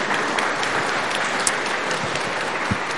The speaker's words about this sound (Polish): I dla żony pana prezesa serdeczne brawa. Oklaski.